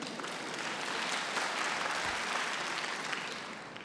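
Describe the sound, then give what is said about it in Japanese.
An audience applauds steadily throughout, a dense wash of many hands clapping at an even, moderately loud level with no voices standing out, in response to an announcement that the members' average age is now 77.3. “年齢言うて拍手もらえるのはここだけです。”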